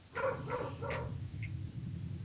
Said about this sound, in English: Sorry, my dog's barking. Easy, Miller.